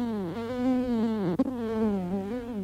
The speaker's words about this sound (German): Die Stechmücken plagen die Leute am Bodensee also zünftig. Und so ist der Griff zum Anti-Mücken-Spray und das große Wehklagen über die surrenden und stechenden Plagegeister in diesem Sommer nicht mehr wegzudenken.